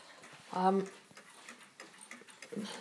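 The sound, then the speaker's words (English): A mantel clock ticks loudly and steadily, its sharp regular clicks continuing throughout, with a brief burst of a man's voice near the start. “Sorry about the one ticking next to it. It's very loud.”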